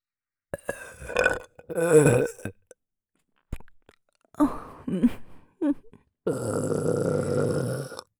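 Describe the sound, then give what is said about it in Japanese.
A series of loud burps with brief pauses between them: a few short croaking ones, then a long, drawn-out rumbling belch that closes the sequence. “私のエロゲップ。”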